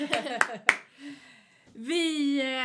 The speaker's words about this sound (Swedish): Applåder!